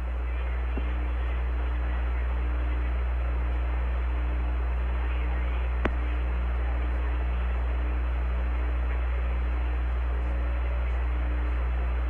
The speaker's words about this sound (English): And there's the secondary glycol pump.